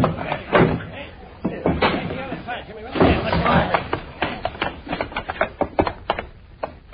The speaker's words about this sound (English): Open up, Morgan. We know you're inside. Open up, Morgan. Push the door in.